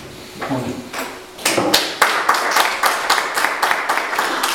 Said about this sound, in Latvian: Un šī aplausa bija pirmkārt tiem, kas strādāja pie šī budžeta, un es gribētu pateikt lielu paldies